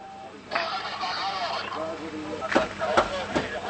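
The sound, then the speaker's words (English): Voices talk over a busy street scene in central Baghdad, then three loud metallic bangs strike at a steady rhythm as Iraqi police hammer at a crumpled car door outside the Kaduri restaurant. “Iraqi police hammer at a crumpled car door outside the Kaduri restaurant in central Baghdad.”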